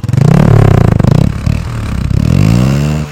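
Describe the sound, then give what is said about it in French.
A just-refuelled motorcycle engine revs loudly, rising and falling twice in quick succession with a brief dip between the two throaty bursts as the engine is revved once, then a second time. “vient de faire le plein de sa moto, ronfle le moteur une fois, puis une seconde fois et observe la fumée qui se dégage de l'engin.”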